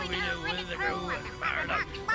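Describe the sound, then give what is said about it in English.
A robot parrot squawks in a run of warbling, metallic chirps, fairly loud, with bright bursts rising and falling over about two seconds. “Oh, he's got a lovely robot parrot as well.”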